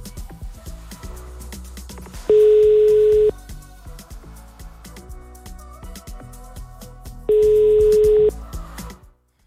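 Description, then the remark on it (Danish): A phone line ringing out as a call is placed to a contest winner during a live radio broadcast: two steady one-second ringback tones about five seconds apart, heard over a soft music bed with no one speaking. “Men lad os ringe til en person og overbringe den glade, gode nyhed.”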